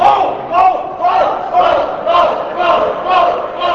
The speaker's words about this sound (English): When a lawmaker, staff, or pretty much anyone wearing a suit would walk by, the crowd piped up in unison.